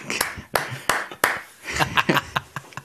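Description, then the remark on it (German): A handful of sharp, separate hand claps, fairly loud, spaced unevenly over a few seconds, with soft voices and a little chuckling in between. “Klatschen. So einzeln.”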